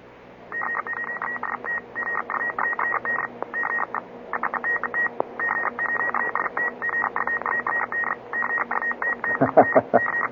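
Rapid Morse code beeps stream over a radio channel, a steady high tone keyed on and off at high speed amid background hiss, with a brief burst of other radio noise near the end.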